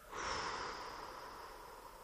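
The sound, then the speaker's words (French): A single long, airy breath during a breathing exercise, with hands held before the throat. It fills the belly and chest, holds a moment, then blows out. A soft, steady rush of air swells quickly and then holds for about two seconds, with no talking. “Et puis nous déplaçons nos mains devant le deuxième point, la gorge, et nous inspirons. Nous gonflons le ventre, la poitrine, nous retenons un instant notre respiration et nous soufflons.”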